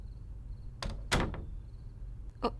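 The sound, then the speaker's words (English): A door closes with a few quick knocking thuds and a latch-like click, followed moments later by another short clack, set against a faint, steady background hum and a thin high chirp. “Open the door back up right now.”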